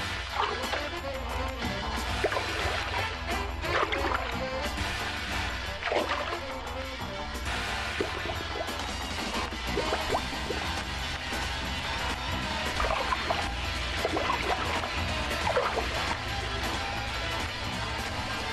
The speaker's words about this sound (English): If you are near a lake or river, remove all mistrust in the moose coming towards you by simulating the walk of the female in the water. Lounge a paddle or stick about 8 inches in the water and move it briskly to and fro.